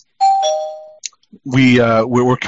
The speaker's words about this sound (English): I don't want to ring the spoiler bell, but I think I should.